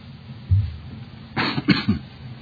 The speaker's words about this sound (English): If we ever get rid of winter, maybe I'll get rid of this cough. My wife's had it now for, 4 months? 4 or 5 months? Something like that. Just keeps going around in circles.